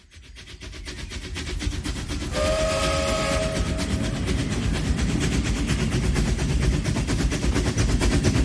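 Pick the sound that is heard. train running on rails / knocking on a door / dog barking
train running on rails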